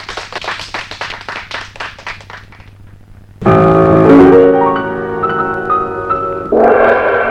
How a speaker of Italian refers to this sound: E il salto fu così bello che i ragazzi, smesso di ridere, cominciarono a urlare. Viva Pinocchio! E a fare una smanacciata di applausi che non finivano più.